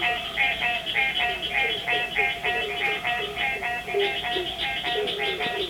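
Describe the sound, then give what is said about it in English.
A dense chorus of green tree frogs gives steady, rapid nasal honking calls in overlapping rhythmic pulses, mixed with other frog species calling at a constant, moderate volume with no talking. “All right, so that's the green. Green tree frog.”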